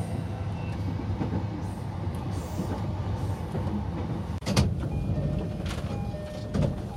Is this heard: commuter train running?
yes